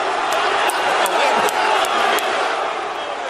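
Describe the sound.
A loud, sustained roar of an arena wrestling crowd cheering and yelling as the wrestler the Rock incites them, with a dense wash of voices holding steady throughout and a few sharp bursts rising out of the din.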